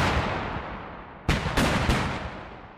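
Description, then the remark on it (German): Three heavy artillery shots from self-propelled howitzers (tanks) boom in quick succession over a steady rumbling background, each blast sharp and loud with a rolling decay, fired after the guns leave cover in a forest and move into firing position. “Die Panzer kommen aus ihrem Versteck im Wald, richten ihre gewaltigen Kanonenrohre aus, starten den nächsten Angriff.”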